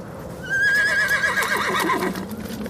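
A horse lets out a loud, quavering neigh lasting a couple of seconds, its pitch wavering and then dropping off, with faint hoof clatter and rustling underneath and no talking.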